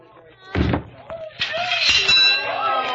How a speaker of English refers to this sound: Hey, yes, sir, right this way. Test your strength and ring the bell. All right, step back, folks. He looks like a free swinger.